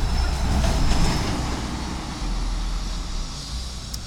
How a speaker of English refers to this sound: So yeah, there's lots of trucks driving by.